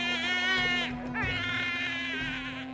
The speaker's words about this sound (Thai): พัทธิดามีเสียงเด็กร้องมาจากในตะกร้านี้เจ้าค่ะ